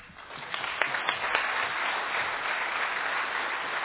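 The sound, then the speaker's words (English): An audience at a worship service claps steadily, a dense wash of many hands with a few sharper claps standing out early on, sustained at moderate loudness throughout. “If this clap is for the worship team members, how about unto our living God?”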